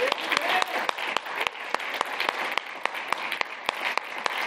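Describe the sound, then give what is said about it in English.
An audience applauds steadily for the mothers standing up in the morning service, a dense wash of many hands clapping with a few sharper individual claps standing out in a loose rhythm, sustained at even loudness throughout. “And I want us, even the mothers can clap too, but I just want to clap for all the mothers here this morning.”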